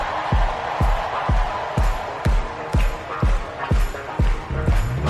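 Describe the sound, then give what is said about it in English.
A large audience screams, roars and cheers continuously over a steady, booming beat that thumps about twice per second, the noisy cheering filling the background throughout. “Now somebody scream.”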